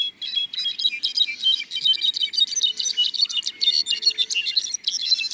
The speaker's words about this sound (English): Flute-like voices of rufous-browed wrens echo through the forest. In concert with glistening songs of brown-backed solitaires.